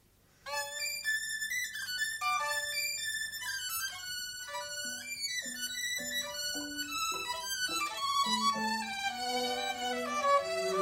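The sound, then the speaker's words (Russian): A lively violin piece plays on its own, bright bowed notes skipping quickly up and down in a steady, dancing rhythm, fairly loud throughout with no talking. “Кузнечик. Откуда взялся? Легок на помине. Сейчас я исполню вам скрипичную пьесу композитора Сверчка.”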